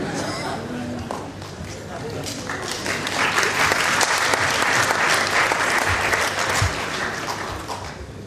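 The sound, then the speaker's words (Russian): An audience bursts into applause, a dense crackle of many hands clapping that swells and stays strong for several seconds before easing slightly toward the end. “Я так полагаю, что это бедные люди хлопают.”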